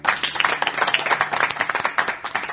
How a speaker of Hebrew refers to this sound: וואה, יפה מאוד. כפיים, רבותיי.